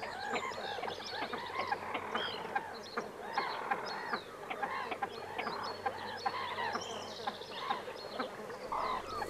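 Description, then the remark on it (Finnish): Wild birds call continuously in a busy outdoor chorus, harsh honking, croaking notes overlapping at a steady level, with no one speaking. “Sinne jää äänehtimään viikon luontoääni silkkiääni.”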